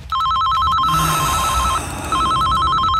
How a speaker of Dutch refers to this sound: Alweer die telefoon.